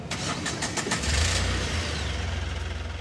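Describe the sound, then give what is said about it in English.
A heavy bus engine turns over with a few rapid chugs, then settles into a steady, deep idling rumble, with no voices; one of a line of parked buses on a dirt road by a river next to Pashupati Temple in Kathmandu, Nepal. “Right next to Kathmandu's famous Pashupati Temple, a line of parked buses snaked along a dirt road by a river.”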